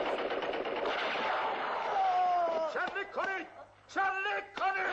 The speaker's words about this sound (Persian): به طرف یاغی ها تیراندازی میکنن. اونها هم پشت بوته ها و تل های خاک پناه میگیرن. قشون پیاپی شلیک میکنه.